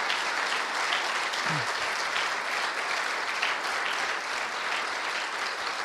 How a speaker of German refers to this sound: Geben wir mal diesem wunderbaren Leiter-Ehepaar, das der Herr euch gegeben hat, ein herzliches Klatschopfer. Danke, danke.